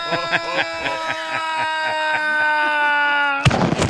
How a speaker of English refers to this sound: He was told to hold on, so he grabbed a handle. Turns out that activated the plane's ejection system.